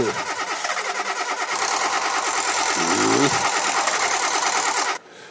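A car engine is cranked by its starter, after the key is put in the lock and the left lever is worked, in quick, rhythmic churning pulses, then catches and roars into a loud, steady run before abruptly dropping away.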